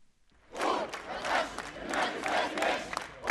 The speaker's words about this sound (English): Protesters jammed downtown Cairo streets, blocking traffic as they urge people watching from their windows to join them in their bid to oust Egypt's military rulers.